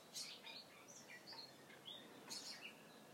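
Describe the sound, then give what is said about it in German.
Birds sing outdoors in a garden, with several high chirps and short whistled phrases scattered over a soft, steady background hiss. No one speaks. “Währenddessen kannst du den Vögeln lauschen, die hier in meinem Garten so schön singen.”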